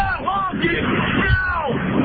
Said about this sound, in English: Sounds like somebody yelling at her.